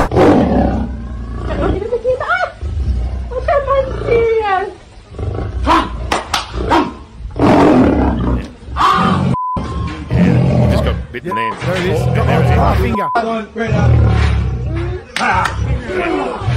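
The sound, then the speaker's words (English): Loud lion roars and snarls rise and fall throughout as a man tries to pull his finger free from the lion, with agitated human voices shouting over them, ending in a chaotic mix of growling and yelling. “And he's pulling away to try and get his finger off, and then all of a sudden the lion just goes and pulls back and see you later.”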